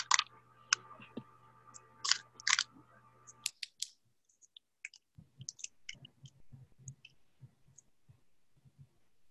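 A rapid series of small, sharp plastic clicks from pacifiers with some soft mouthy chewing sounds, irregular in rhythm, over a faint hum with no speech.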